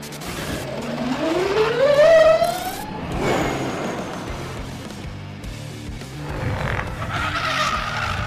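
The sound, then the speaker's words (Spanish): A Formula E Gen 3 electric race car at the Autódromo de los Hermanos Rodríguez, its high motor whine climbing steadily in pitch as it accelerates past, then dropping away into road noise, followed by a fainter second whine; no one speaks. “La Fórmula E está de vuelta, pero no es la misma, ya que este sábado hará su debut el auto eléctrico más espectacular de la historia.”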